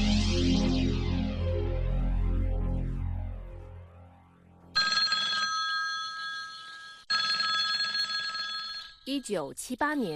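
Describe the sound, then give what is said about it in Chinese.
A telephone bell rings loudly in two long bursts separated by a brief pause, after a swirling, sweeping drone, marking a late-night phone call of 15 December 1978. A short warbling tone follows at the end. “1978年12月15号深夜的一通电话，改变了台湾的命运。”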